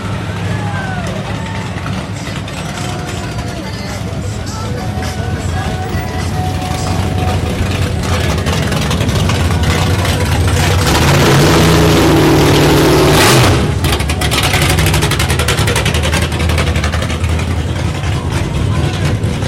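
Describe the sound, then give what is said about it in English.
A 1959 Sabre classic car's engine rumbles loudly at a car show cruise, swelling as it revs and drives off, with a steady throaty drone and faint background chatter throughout. “So, what are you driving? 59 Good, the Sabre.”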